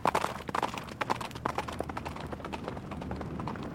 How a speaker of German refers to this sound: Er ging in den Stall und kam bald darauf mit einem Pferd wieder heraus. Dann saß er auf und galoppierte davon.